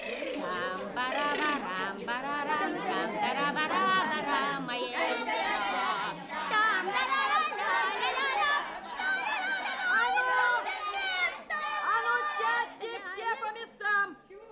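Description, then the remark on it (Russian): A school class of children (6 V) shouting over one another, their high, overlapping voices forming a loud, continuous din with no pauses for about fifteen seconds. “Здесь все хотят быть главными героями. Все одновременно орут.”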